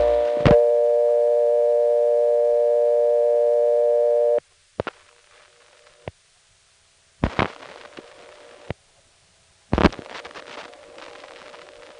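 A steady, unbroken telephone dial tone hums for about four seconds on a line to Elkton, Virginia, returning after a not-in-service recording played twice, then cuts off, followed by a few sharp clicks and short bursts of line noise with quiet gaps between.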